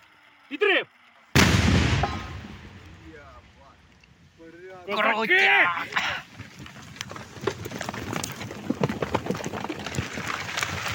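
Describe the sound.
Ukrainian sappers on the front line set off a controlled mine detonation: one sudden, heavy blast, followed by the men's voices and laughter, then a long stretch of earth and debris pattering and rumbling as it rains down on them.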